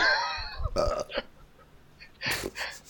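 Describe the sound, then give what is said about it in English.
A loud belch with a raspy, drawn-out tone, followed by a couple of shorter throaty bursts and a brief pause before a final gruff burp. “How do you spell that belch?”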